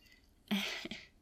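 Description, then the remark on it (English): A short, breathy slurp of someone sipping a homemade drink of coconut milk with a pinch of coffee, mint, herbs and spices, with a brief second pull of air right after, then quiet. “Give it a sip and tell me you don't like it.”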